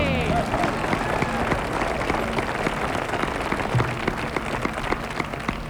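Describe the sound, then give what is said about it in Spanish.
An audience at a radio show claps steadily and densely for several seconds to welcome a guest, a continuous patter of many hands with a few voices cheering faintly underneath. “un aplaudiment per Joaquim Prat, que ens acompanya aquí amb nosaltres ara”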